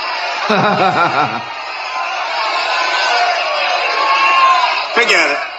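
A large crowd at a Donald Trump speech yells and cheers continuously, calling for names to be named, a loud, dense roar with individual shouts and whoops standing out near the start and again near the end.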